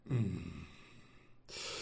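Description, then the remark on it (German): A person lets out an annoyed, huffing snort, a forceful breathy exhale that trails off, followed by a second airy breath near the end. “Das genervte Schnaufen.”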